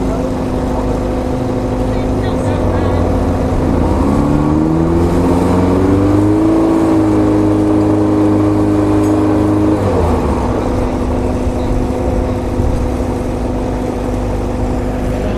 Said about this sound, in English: Here's the special race cars. It's them just measuring the sound of the exhaust. Make sure it's not too noisy.